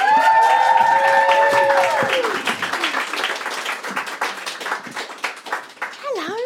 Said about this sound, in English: So please, make some noise, give some whoops and cheers and claps and stomps of your feet as we welcome the wonderful, brilliant, fantastic Brigitte Aphrodite!